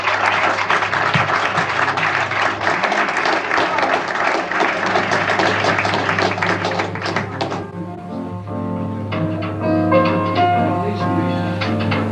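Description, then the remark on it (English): Audience applause at a club for a singer fills the first seven seconds or so, a loud, dense wash of clapping, then fades as music starts and carries on to the end. “We'd like a very big hand, please,”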